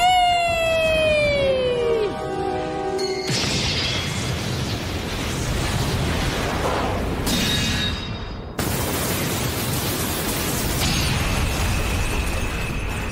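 A video game ultimate ability: a high whining tone slides downward, then gives way to loud, roaring explosive blasts that rumble on with sharp cutoffs and fresh bursts, with no one talking.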